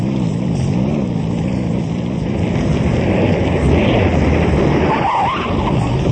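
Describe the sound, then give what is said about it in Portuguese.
A car engine hums steadily as the vehicle drives along, a continuous low rumble with road noise, loud throughout, with a brief higher whine near the end. “Se encosta aí, tenta dormir enquanto eu levo o carango em frente.”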